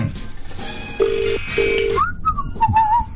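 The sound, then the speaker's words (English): A mobile phone call ringing tone sounds twice in quick succession, two short steady buzzing pulses, followed by faint warbling, whistle-like tones against a low background hum. “Why isn't it ringing?”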